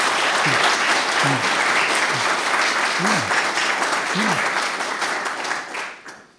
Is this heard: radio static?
no